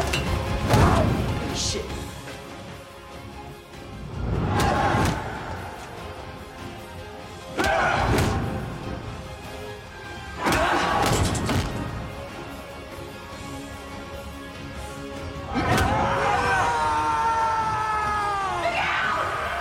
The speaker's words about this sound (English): Pure terror. I asked that they put the pterodactyl noise when I screamed right there, but they opted against it.